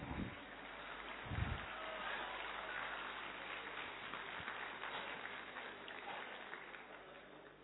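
A steady wash of audience applause, many hands clapping together in a dense, continuous patter that holds at a fairly even level throughout, with a few low thumps near the start.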